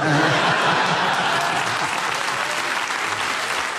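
A steady burst of audience applause, dense clapping from many hands holding at a fairly loud, even level for a few seconds, with a faint hint of laughter mixed in.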